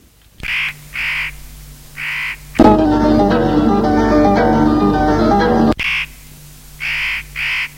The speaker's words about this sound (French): Au petit matin, les chants des oiseaux le réveillent.